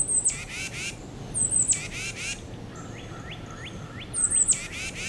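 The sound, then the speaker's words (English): Tufted titmouse calls: harsh, buzzy scolding bursts repeating three times, with a cardinal's short rising chips and a crow's faint caws in the background, over steady low outdoor rumble. “For now, here's their standard call. Listen for a cardinal and a crow in the background.”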